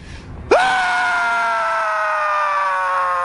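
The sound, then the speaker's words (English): Owen Schroyer lets out a single loud, sustained scream at a protest in Austin, starting abruptly and holding at a steady high pitch for nearly three seconds, strained, with no talking around it. “In Austin, our own Owen Schroyer screamed for longer than the actual protesters.”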